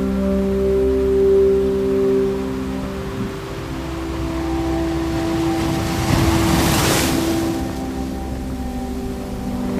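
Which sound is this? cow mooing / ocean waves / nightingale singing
ocean waves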